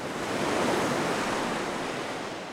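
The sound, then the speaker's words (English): Tall waves crash steadily against a Great Lakes shoreline during November gales, a broad continuous roar of surf with wind gusting over it, loud, swelling slightly in the middle before easing off. “In the Great Lakes, this is the season of frequent storms and tall waves crashing against the shoreline.”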